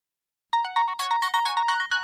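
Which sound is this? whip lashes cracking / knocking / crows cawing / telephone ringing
telephone ringing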